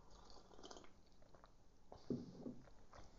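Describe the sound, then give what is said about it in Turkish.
Someone takes a quiet sip of tea: a soft, brief slurp and wet mouth sounds against a hushed background, with no talking. “Şimdi bir yudum çay içeyim.”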